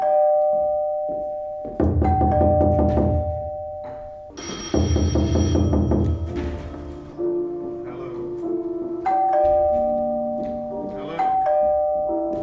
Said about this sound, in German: Immer hockt eine oder einer am Klavier und mimt das Spiel mit den Tasten, während andere auf das Klopfen und Klingeln an zwei Türen reagieren, sie öffnen, aber nie jemanden vorfinden.